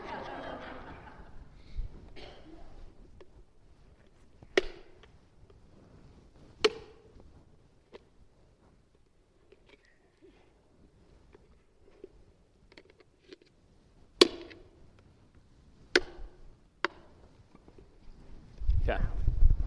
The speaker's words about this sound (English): I want you to hold this. Hold it on the ground. Hold it like this. Are you going to hammer it? I am going to hammer it.